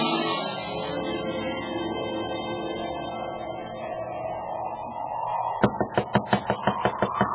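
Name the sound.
knocking on a door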